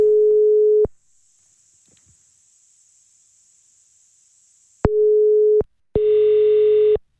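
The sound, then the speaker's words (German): A telephone ringing tone: a steady, mid-pitched beep about a second long, a four-second silence, then the tone again, briefly cut off and resuming rougher and buzzier. No voices. “Es klingelt. Immerhin.”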